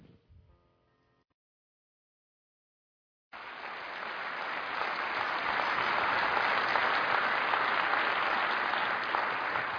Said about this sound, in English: And those of you that are offended by clapping in church, I just want to tell you, if you don't clap in church, there's probably no place you should be allowed to clap.